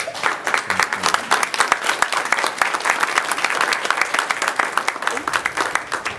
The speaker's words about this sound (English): Now I'm going to ask people to refrain from clapping, but please welcome.